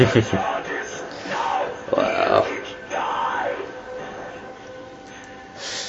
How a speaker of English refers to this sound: I was hoping for something a little more dramatic than him just panting a little. Yeah, actually, yeah. Writhing around in pain would have been good.